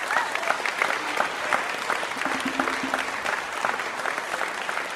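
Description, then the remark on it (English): A crowd applauds steadily for staff members at an evening event for young student players, many hands clapping in a dense, continuous wash of sound that stays fairly even in loudness throughout, with no talking over it. “Big round of applause for those people.”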